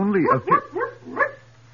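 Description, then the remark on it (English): Four short, tonal barks in quick succession, likely a human voice imitating the dog of the village of Visoka, clear over a faint steady hum, fading slightly toward the end. “That dog was not barking for nothing.”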